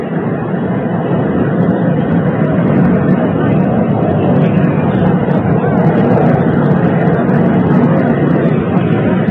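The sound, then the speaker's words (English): A loud, steady mechanical roar of an Army helicopter's engine and rotors spinning up as it prepares to take off from Andrews Air Force Base outside Washington carrying President Lyndon Johnson, filling the whole recording with a dense, continuous rumble and no pauses. “Now the Army helicopter preparing to take off. The rotors beginning.”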